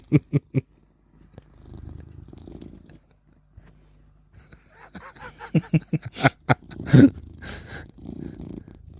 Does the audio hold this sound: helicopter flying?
no